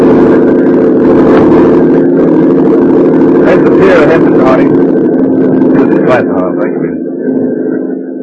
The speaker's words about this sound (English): Good idea, Dave, taking this speedboat instead of a plane. Smugglers probably had their eyes on every airfield in Cuba.